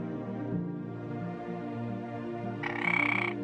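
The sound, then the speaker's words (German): A frog croaks in a short, buzzy burst of rapid pulses near the end, rising clearly above a steady, soft musical background that plays throughout. “Der Frosch weist dir den Weg.”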